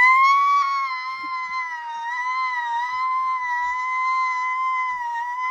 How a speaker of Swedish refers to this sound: Det låter inte som ett skrik, det låter bara som att på gatan när de så här borrar typ. Ja. Sågar någonting.